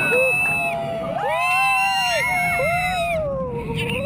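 A crowd of people on a roller coaster screams together over a steady, heavy low rumble, many overlapping high wailing voices rising and falling, loud throughout.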